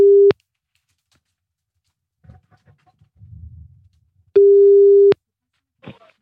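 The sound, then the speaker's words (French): A steady, low-pitched electronic telephone line tone sounds in two clean bursts, a short one and then a longer one, separated by a quiet gap with faint rustling and soft handling noises, as a phone call is being placed. “Allez, c'est parti, on y va, on appelle.”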